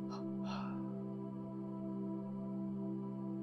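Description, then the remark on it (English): After a held breath, two quick, breathy exhalations in close succession, soft, followed by a steady sustained musical drone that continues alone. “Breathing in and holding the breath, and then let go with a double exhalation.”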